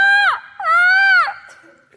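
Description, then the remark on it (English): Ravens give two loud, drawn-out nasal calls, each rich in overtones and dropping in pitch at the end, separated by a brief pause and followed by faint trailing sounds. “They're ravens. They're birds.”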